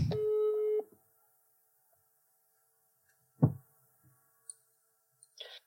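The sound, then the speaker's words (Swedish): A single steady electronic ringing tone from an outgoing phone call sounds for under a second, followed by quiet, a dull thump and a few faint clicks. No one speaks. “Ska vi ringa upp honom och säga att det är ett prank eller ska vi låta den leva kvar?”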